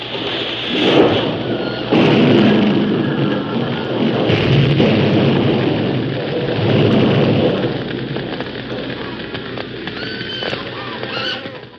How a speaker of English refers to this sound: looked up to see the flaming roof about to crash upon them